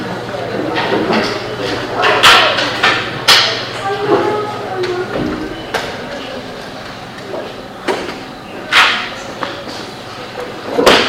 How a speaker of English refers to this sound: Can we close the door? Can we close the door?